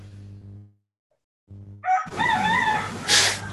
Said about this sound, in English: The rooster is productive too. Yes, the rooster is breaking the silence. I think he wants to share. Yes. Yes, absolutely. He's joining in. Is that from Hawaii, the rooster? Yes, I live on a sea farm.